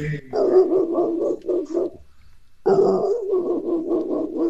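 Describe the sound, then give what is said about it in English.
A person imitates a dog barking in the distance with a quick series of gruff, rhythmic woofs, pausing briefly before launching into another burst of repeated vocal barks, loud. “Kom blaf soos 'n hond in die verte.”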